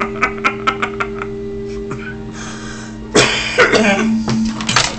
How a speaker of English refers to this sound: Ow, I just had to cough. That's rude. Do not cough in the mic.